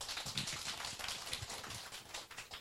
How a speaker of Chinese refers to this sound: 好，我们下面请这位姐妹上来做见证，我们鼓掌欢迎她。